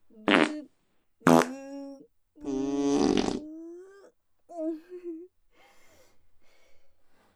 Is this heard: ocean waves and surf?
no